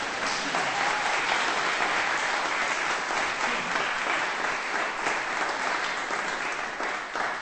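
A roomful of people clapping steadily for several seconds after a piano performance of Bach's Toccata and Fugue at a Halloween-themed evening, a dense, even wash of applause that holds its strength throughout, with no voices standing out above it.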